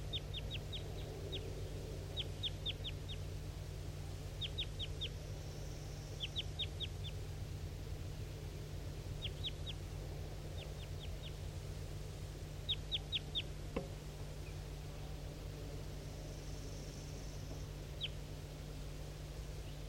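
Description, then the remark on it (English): A wild bird calls in repeated bursts of three or four quick, high, thin chirps, pausing between groups, over a steady low hum with no talking. “Start recording a wild bird again.”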